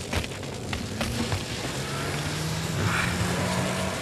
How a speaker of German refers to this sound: Er hat erreicht, was er wollte. Das Auto brennt. Ja, vorn. Hinten noch nicht. Wenn noch Benzin im Tank ist, geht der Mustang hoch wie eine Bombe.